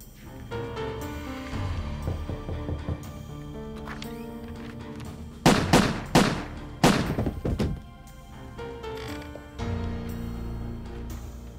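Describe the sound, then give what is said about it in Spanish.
Four or five loud, sharp gunshots crack out in a quick, uneven burst during a shooting at a couple's home on 16 January 1982, after a knock at the door. They stand out clearly over a steady bed of background music that carries on before and after. “Los disparos fueron muy sonoros, eso lo recuerdo.”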